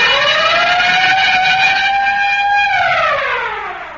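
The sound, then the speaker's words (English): A loud siren sound effect, played by a show's sound man to wake a sleeper, wails alone, its steady tone climbing slightly, holding, then sliding downward as it winds down over about four seconds; no voices and no distinct bell strokes stand out. “Say, Ray, could we have that siren and bell again?”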